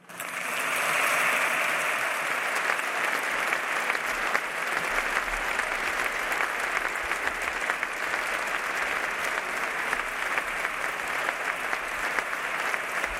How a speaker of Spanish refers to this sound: Aplaude el público asistente en que en estos momentos está en la Real Casa de Correos como respuesta a las palabras de Isabel Díaz Ayuso